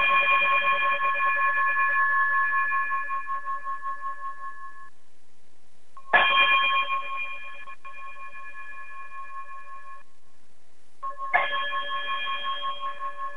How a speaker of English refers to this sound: Brother Braggs, would you chime us out of here?